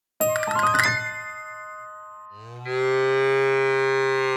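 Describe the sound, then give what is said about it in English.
A metallic bell clangs and rings out, then a cow lets out a long, loud, steady moo that swells up and holds to the end. No one speaks. “Big Ted, look, it's a cow standing with someone.”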